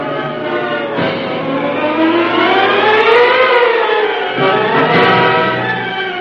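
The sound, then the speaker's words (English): A police squad car siren wails loudly and continuously as the squad car follows a fleeing car, its pitch sweeping slowly up and down over a steady low rumble, with no one speaking. “Faster, Cato. Squad car's following.”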